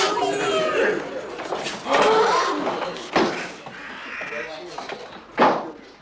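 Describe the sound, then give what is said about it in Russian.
Several harsh, raspy caws burst out at irregular intervals from a crow caught in a rag in a classroom and thrown out of the window, loud, over a background of murmuring voices and room noise. “Наталья Сергеевна открывает окно и выбрасывает ворону в тряпку.”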